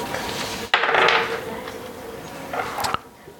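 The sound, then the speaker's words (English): A sharp clatter of dice tumbling across a hard tabletop, a burst of bright rattling followed by a few lighter clicks as they settle, with no voices. The dice are rolled for a perception check. “GCP on the dice.”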